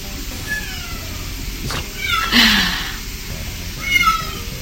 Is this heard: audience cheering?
no